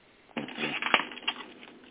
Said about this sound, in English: It's a lot of background noise. Sounds like a door opening and shutting. I hear it too. I don't know where it's coming from.